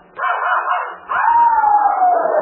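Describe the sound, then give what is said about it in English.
A puppy gives two loud, drawn-out yelping barks, the second held longer and slowly sliding down in pitch, with no voices around it. “Oh, I know how to stop that noise.”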